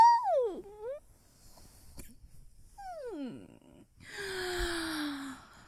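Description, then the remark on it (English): A quiet yawn: two squeaky, falling whine-like tones, then a longer breathy exhale with a smooth gliding pitch, all soft, with no talking. “Oh, ninja yawn.”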